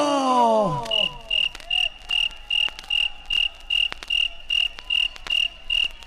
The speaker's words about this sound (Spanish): Como la canción del grillo.